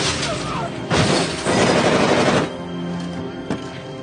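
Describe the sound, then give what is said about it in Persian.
Someone deliberately smashes a window. The glass shatters in loud bursts, with a harsh crash near the start and a longer splintering spray that trails off, followed by a single sharp knock. “این پنجره، این لعنتی رو بشکنم.”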